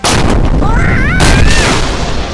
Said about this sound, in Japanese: なんでうちの船が爆発したっすか。ミラクルっすね ー。